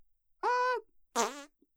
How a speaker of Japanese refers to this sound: ポンポン、すっごく痛いよ。ゴロゴロしちゃって、すごくたくさんおならが出るの。聞いててくれる？